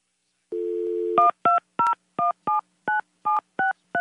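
A steady dial tone hums briefly, then about ten short, evenly spaced touch-tone beeps sound as a phone number is dialed on a keypad, each tone a clear two-pitched electronic chirp.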